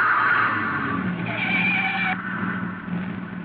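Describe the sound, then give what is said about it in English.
A car skids off the road after a front tire blows out, with a loud, sustained tire screech over a rough rumbling engine and road noise, the squeal rising midway and then fading into a grinding roll. “It wasn't a shot. A front tire had blown out.”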